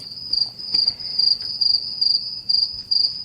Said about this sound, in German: Das lange Schweigen im Wald, Leute. Da kannst du jetzt so einen Grillenzirpen einspielen. Ja, das musst du einfach mal einspielen.